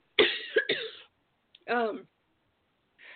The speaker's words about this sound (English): I'm going to have to cough. I can't believe this. First I get kicked off and then I have to cough. You think while I was kicked off, I would have coughed and then I would have been fine.